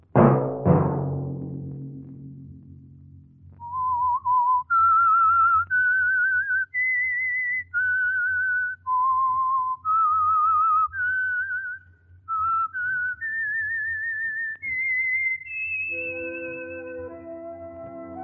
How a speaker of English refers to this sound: Let that whistle be your signal each Sunday for the Signal Oil program, The Whistler.